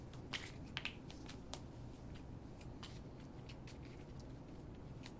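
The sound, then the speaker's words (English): A deck of cards being quickly shuffled, a few crisp riffling bursts near the start followed by softer, steady card rustling at low volume. “Quick shuffle.”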